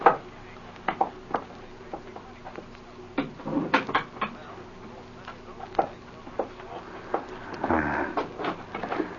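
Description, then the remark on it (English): A door is eased open quietly: a series of soft, scattered clicks and knocks from the latch and handle, then a brief low rustle as it swings, with no talking. “the door. And when I open it, you slip out first.”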